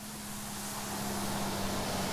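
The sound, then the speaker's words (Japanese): A bus pulls away from a stop. Its engine rumbles steadily with a low droning hum and broad road noise, holding an even, moderate level throughout without any voices. “あ、もうバス行っちゃったよ。”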